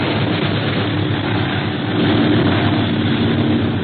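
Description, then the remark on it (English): A steady, unbroken drone of a twelve-motor propeller airplane in flight, loud, a low rumbling roar that holds constant throughout with no voices. “this plane has 12 motors, but it's hard to outfly a pursuit plane.”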